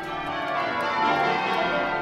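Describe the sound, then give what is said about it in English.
Church bells peal continuously in Cambridge, welcoming United Nations Secretary General Antonio Guterres as he collects an honorary degree; their overlapping metallic tones ring out loud and full, with no voices. “No, no one's getting married. These are the bells welcoming United Nations Secretary General Antonio Guterres to collect his honorary degree from Cambridge”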